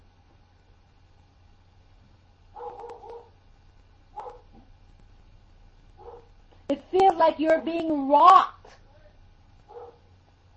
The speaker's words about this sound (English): Hold on 1 minute. I hear somebody at my gate and the dogs are barking. Give me 1 second.